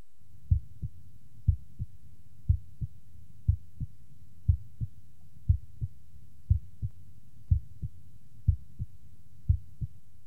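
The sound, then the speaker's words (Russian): Heartbeat heard through a stethoscope during auscultation: about ten steady cycles of paired, muffled low thumps, roughly one per second, the first sound of each pair fainter than the second, clear with a faint hum between beats and no talking. “Обратите внимание, что первый тон был слышен хуже второго.”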